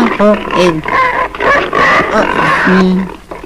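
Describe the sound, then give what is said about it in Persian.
A pig squeals and grunts in short, high, wavering bursts, with excited voices talking over the commotion throughout. “اول اون خوکو بده به من.”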